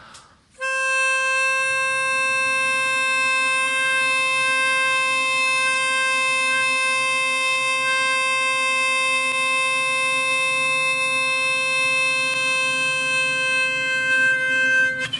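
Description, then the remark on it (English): A love tuner blown at 528 hertz as one long, unwavering tone for about fourteen seconds, loud, bright and reedy with strong overtones, while a group hums low and soft beneath it. “It's called a love tuner, by the way.”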